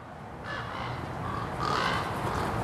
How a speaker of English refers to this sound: The next day, right at sunset, we're in Palmdale. The city has hired him to control their raven problem. Hundreds of them are roosting in a park next to City Hall. That means poop and noise.